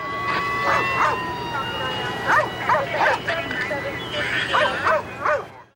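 police dog barking

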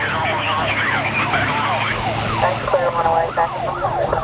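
police car siren

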